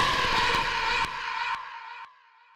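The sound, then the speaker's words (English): A loud, drawn-out tire screech from a skidding car sound effect in an advert for Tom's Alarm Emporium, punctuated by several sharp impact bangs, fading away in stages over a couple of seconds with no voices. “Just make sure you don't crash your car on the way!”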